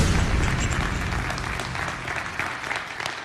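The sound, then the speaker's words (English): A crowd applauds steadily, a dense patter of many hands clapping at once, fairly loud, with a low rumble underneath that eases off slightly toward the end. “I don't understand why people clap before you did anything.”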